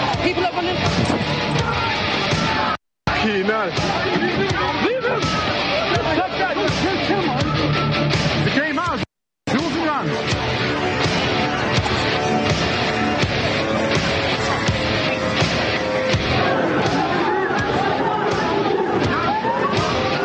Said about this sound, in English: The smashing of the people's cars.